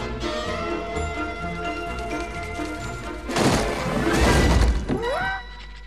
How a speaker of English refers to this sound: Fred pulls into his driveway, then kicks down the front door.